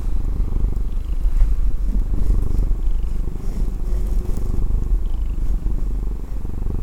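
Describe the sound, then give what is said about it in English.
A male black cat lying in a person's lap purrs steadily and continuously, a low, rumbling drone with a soft rhythmic pulse, loud and unbroken with no talking over it. “Yeah, that's this cat saying, I could be anywhere in this house I want.”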